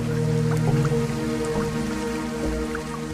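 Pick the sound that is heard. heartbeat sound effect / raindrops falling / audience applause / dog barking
raindrops falling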